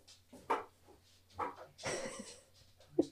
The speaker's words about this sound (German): Kurzes Hunde-Chaos hier.